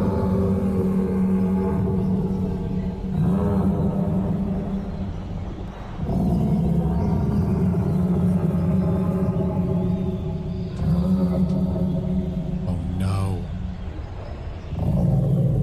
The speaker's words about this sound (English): This is literally just a collection of chicken sounds slowed down. And I also put in some like jungle ambience to set the scene.